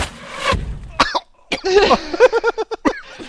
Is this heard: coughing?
yes